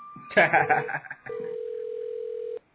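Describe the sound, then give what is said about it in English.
A steady, mid-pitched electronic ringback tone from an outgoing phone call dialed to a guest during a show drones for about a second and a half, after a short burst of overlapping talk with a faint higher tone beneath it. “he ain't gonna answer the phone now.”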